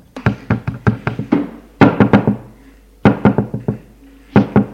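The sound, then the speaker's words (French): A woman knocks loudly and rapidly on a toilet door, coming in four quick bursts of several sharp, hollow raps each, with short pauses between. No voices. “Elle frappe à la porte des WC.”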